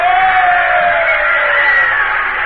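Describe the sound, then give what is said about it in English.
A crowd of 150,000 packed on stone and wooden seats in the Circus Maximus in Rome roars in sustained cheering as a parade enters, a dense wall of voices with occasional yells and whoops rising above it, loud and continuous throughout. “A sudden cheer from 150,000 Romans packed on unshaded tiers of stone and wooden seats greets the parade as it enters the Circus Maximus.”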